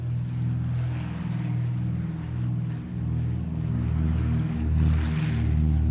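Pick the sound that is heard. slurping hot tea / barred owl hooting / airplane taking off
airplane taking off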